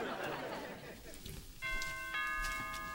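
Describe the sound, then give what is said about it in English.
Partway through, a doorbell rings out with a single bright, sustained chime that keeps ringing to the end, after a stretch of muffled, rustling background noise. “Come on, ring the bell.”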